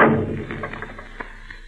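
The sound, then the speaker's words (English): A heavy wooden trap door thuds shut with a deep, booming impact that rings out and fades, followed by a few faint knocks and rattles as it settles. “Close that trap door.”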